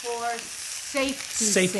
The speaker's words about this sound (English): What is the seasoning on these chicken breasts? Salt and pepper. That's all we have. You want a lot of noise and you want smoke and steam coming up, because we're going to brown them skin side down.